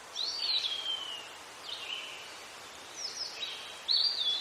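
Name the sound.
bird calling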